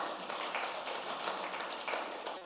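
An audience claps together in a steady, dense burst of applause, many hands blending into a continuous crackling wash that stays fairly even in loudness throughout.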